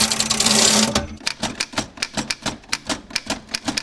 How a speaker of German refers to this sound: Alles klar, oder? Also richtig alte, mechanische Schreibmaschine. Etwas, was man heute eigentlich im Computerzeitalter nicht mehr hat.